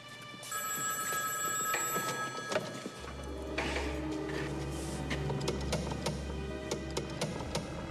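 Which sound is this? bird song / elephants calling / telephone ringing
telephone ringing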